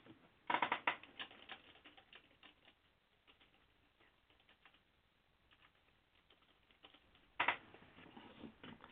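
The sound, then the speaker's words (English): Rapid clicking of keys on a computer keyboard, fairly loud, with a dense burst at the start, quieter scattered taps through the middle, and another quick flurry near the end. “So, yeah, as you can hear, I am typing because he's got to go.”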